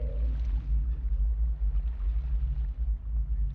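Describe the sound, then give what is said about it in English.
A low, continuous underwater rumble with a brief moaning tone at the start, like a whale song recording. It stays steady and fairly loud throughout, with no voices. “there's one whale, and it swims in a loop over and over and over again over more than a decade period, calls out constantly, and its song is never answered. No other whales respond to it within the area, and it's just alone.”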